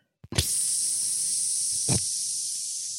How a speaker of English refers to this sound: That's the pink noise. That's a perfect waveform. That's a perfect sound. Technically perfect. It fades out.